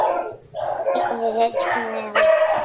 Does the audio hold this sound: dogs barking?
yes